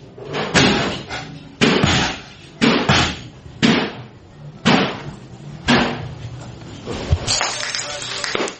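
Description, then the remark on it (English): Loud sledgehammer blows smashing items in a rage room, about seven heavy crashes landing roughly once a second, each followed by clattering debris and a brief ringing decay. “These two items right here are sledgehammer items, okay?”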